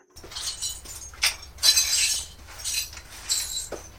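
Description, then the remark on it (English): Bristly scraping strokes of a broom push pieces of broken glass across a hard floor, with bright tinkling clinks as shards shift and slide into a dustpan, repeated in several sweeps. “Carefully and gently sweep the pieces of glass together with the broom and into the dustpan.”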